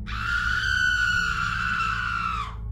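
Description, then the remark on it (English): A single piercing, high-pitched scream echoes through a valley, holding steady and loud for over two seconds, then dropping off sharply at the end, with no voices or other sounds around it. “Suddenly, a blood-curdling scream echoed through the valley.”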